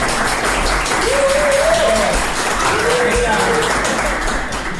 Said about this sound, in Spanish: Normalmente aquí en la edición suenan unos aplausos, pero ya que os tengo aquí os voy a pedir por favor un aplauso para estos dos.